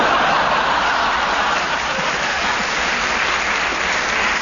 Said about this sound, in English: I don't know why you clap him. I mean, he's absolutely wicked.